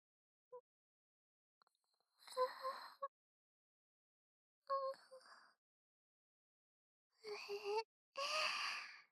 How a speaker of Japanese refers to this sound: まだ眠いね。あくびが出ちゃう。